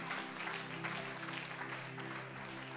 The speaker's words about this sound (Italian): Forte questo applauso al Signore.